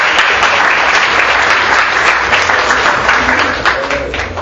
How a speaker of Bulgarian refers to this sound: още веднъж вашите аплодисменти за нея.